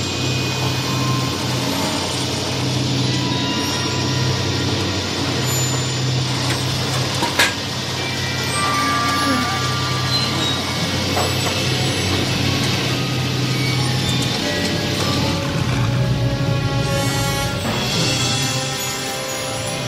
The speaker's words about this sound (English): And then the truck opens, and the DeLorean comes out.